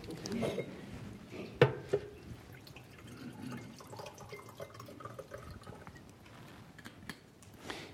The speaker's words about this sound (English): I just need a drink of water. I'm not choked up or anything else.